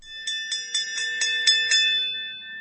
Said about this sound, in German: Die Glocke läutete zur allmorgendlichen Lehrerversammlung und alle nahmen ihre Plätze ein.